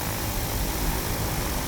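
A light aircraft's engine roars loudly and steadily as the pilot speeds up slightly, a dense propeller drone with heavy low rumble filling the whole moment, no voices; the aircraft is about 10 metres above the ground, crossing the take-off runway.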